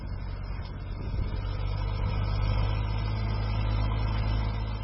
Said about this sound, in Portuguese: Na cidade de Mucutu, situada a 40 km a norte da Harare, um trator prepara a terra em antecipação da estação das chuvas que se aguarda a todo momento.